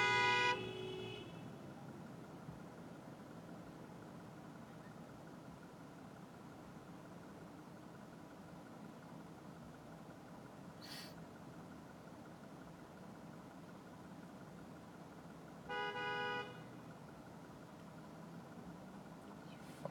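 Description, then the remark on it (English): Two car horn honks stand out over a steady rumble of traffic at an intersection blocked by cars, one loud blast right at the start and a shorter toot much later, with engine noise droning throughout. “Asshole next to me with his fucking iPod headphones in, honking at people if they even look like they're gonna be blocking the intersection.”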